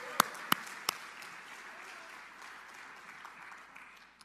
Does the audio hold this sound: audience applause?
yes